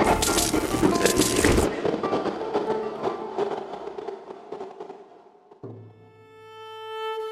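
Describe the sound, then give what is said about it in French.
A vagabond's head crashes onto an oak bar counter in an inn: a loud crashing impact with a dense, clattering burst that fades into a rattling tail; a few seconds later a sustained musical tone rises and holds beneath it. “et le vagabond semble piquer du nez, à tel point qu'au beau milieu d'une phrase, l'aubergiste n'est non pas coupé par un désormais habituel appel à l'ivresse, mais par le fracas d'un crâne sur le comptoir en chêne.”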